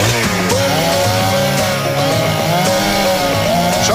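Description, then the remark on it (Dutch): A chainsaw is switched on and its engine runs loud for the whole stretch, its buzzing whine rising and dipping as the throttle revs, with no voices over it. “Tijd voor de zaagplaat. Hup, kettingzaag aan.”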